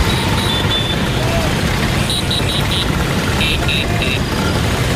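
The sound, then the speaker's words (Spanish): A steady drone of many Vespa scooter engines rolls past as 10,000 Vespas ridden by fans from 67 countries parade through the streets of Rome by the Colosseum, while horns toot in two quick bursts of short, high beeps. Voices are faintly audible in the background. “Banderas de sus países tocando el claxon, como decimos, y esa postal tan bonita, tan italiana, de las 10.000 Vespas recorriendo las calles frente al Coliseo Romano.”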